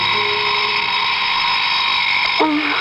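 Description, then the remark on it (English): An alarm clock buzzes continuously, a loud, steady, harsh electronic drone with no pauses, and a short low vocal murmur rises briefly near the end. “Your alarm to wake you up. Mm-hmm. Turn it off.”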